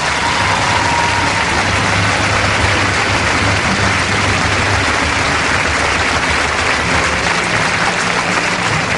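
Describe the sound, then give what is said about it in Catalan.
A crowd applauds the team's players, especially the injured ones, steadily and loudly throughout, a dense wash of clapping that never lets up, with a faint low hum running underneath. “Fora aplaudiment per elles!”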